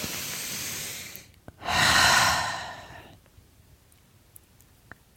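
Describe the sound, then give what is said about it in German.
Two long, deep breaths: a steady inhale followed by a fuller, louder exhale, then quiet with a few faint clicks. “Hey, lass uns bitte mal kurz in die Dankbarkeit erstmal, meine Worte überschlagen sich, wir atmen.”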